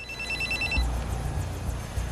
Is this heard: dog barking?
no